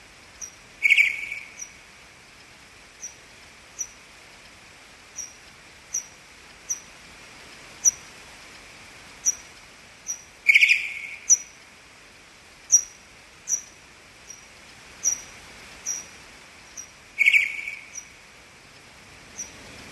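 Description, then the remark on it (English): Pipistrelle bat calls recorded in a garden with an AudioMoth at a high sample rate, slowed down eight times as the bats hawk up and down: a steady train of short, high clicking echolocation pulses, about one a second, broken three times by a louder, harsher, lower-pitched chirping contact call. “Using an audio moth at a high sample rate, I was delighted to record these pipistrel echolocation signals and contact calls, here slowed down 8 times as the bats hawked up and down the garden.”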